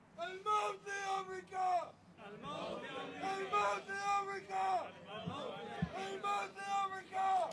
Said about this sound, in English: The crowds are chanting death to America. In an earlier portion, they're chanting death to Israel.